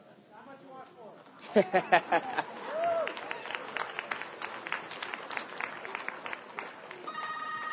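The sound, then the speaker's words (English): A phone rings after a voice command places a call, with a series of bright, repeated electronic tones over busy, clattering background noise, with a steadier ringtone starting near the end. “And now my phone is ringing.”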